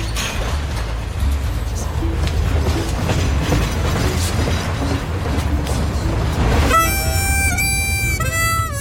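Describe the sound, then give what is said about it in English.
A train rumbles along the rails, a steady heavy roar with rhythmic clattering, and near the end a shrill, piercing tonal squeal rises over the noise. “On the downslope, the train stopped for 30 minutes at Upton Siding, which allowed us to walk the line and explore the high desert landscape of sagebrush, ponderosas, and oversized pine cones until a northbound train passed.”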